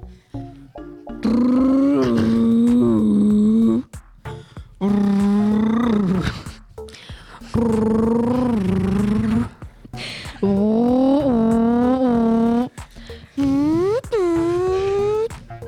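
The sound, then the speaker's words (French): Several people take turns in a mini-game imitating the sound of a car, making loud, drawn-out vocal engine noises, each a few-second burst of buzzing, rumbling voice that rises and falls in pitch like a revving car, with short pauses between attempts. “On va devoir imiter le mieux le bruit de la voiture.”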